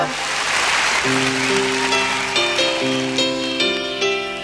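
Steady, dense applause from an audience, a crackling wash of clapping that carries on as sustained musical notes start up about a second in and continue beneath it.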